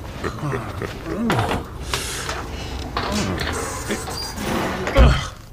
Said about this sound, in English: Well, first thing I'll do is fix this inner door. You can try all you want. That thing never closed right. Yeah. Sorry? It's been 15 years, and it's never closed right. Well, the stops are misaligned and the hinges are bent.